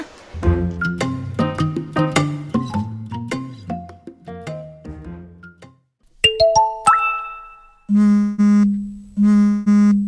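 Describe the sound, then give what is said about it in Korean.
A flurry of overlapping KakaoTalk messaging app notification chimes rings out in quick succession as family members send messages, followed by a short rising jingle and then three loud, repeated alert tones. No one speaks. “카톡, 카톡, 카톡, 카톡. 현금이 통장에 꽂히자 가족들이 문자와 카톡, 전화로 뻔질나게 안부를 전하기 시작했다.”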